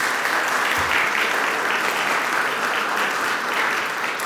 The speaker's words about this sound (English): You get more applause than I get.